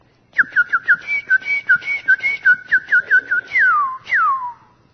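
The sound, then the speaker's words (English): A person whistles an imitation of a cardinal's song: a quick run of about a dozen bright, clipped notes around the same pitch, then two long downward-sliding whistles to finish. “Then you get down a little bit, crows. They try, but they can't do it. But see, then you get down towards like that cardinal.”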